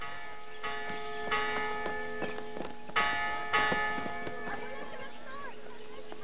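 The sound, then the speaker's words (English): A church bell tolls repeatedly, summoning peasants from their work in the fields, with bright, ringing overtones that linger between strikes, alongside faint clip-clop like hoofbeats and soft background activity. “The tolling church bell summons the peasants from their work in the fields.”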